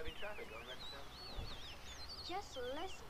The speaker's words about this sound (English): Just listen to those lovebirds. Chirping, chirping, chirping.